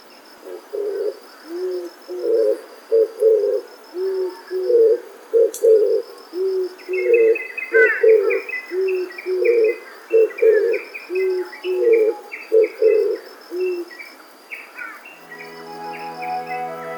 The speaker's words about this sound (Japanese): 南国の朝日がサトウキビ畑に差し込んできました。琉球キジバトのさえずりがすでに熱くなった空気を揺らしながら流れていきます。